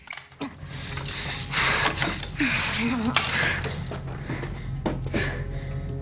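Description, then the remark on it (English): Metal manacles clink and rattle as a woman is manacled to a chair in a cellar, a run of sharp metallic clicks and jangles over a low steady hum, with a brief strained vocal murmur partway through. “He sits her in a chair and manacles her to it.”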